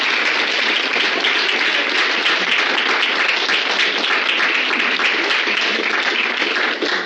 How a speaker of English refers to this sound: All right, so I just want to give everyone a round of applause